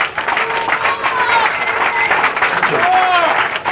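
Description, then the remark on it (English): A crowd at a live band show at Paul's in Boston claps steadily throughout, a dense, loud patter of many hands, with voices cheering and calling out over it. “How about if all the listeners clap?”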